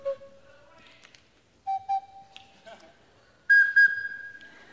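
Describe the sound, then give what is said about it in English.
A small recorder plays a few held, piping notes that climb higher in steps, with the last high notes the loudest and brightest. No one speaks. “I guess you know these little recorders come in all sizes.”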